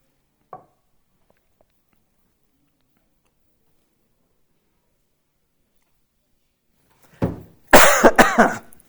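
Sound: coughing and throat clearing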